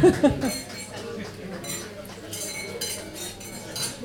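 Several glasses clink together in a toast at the tenth Malvasia de Sitges week in Sitges, a scattered run of bright taps over a murmuring crowd, with a few louder clinks near the end.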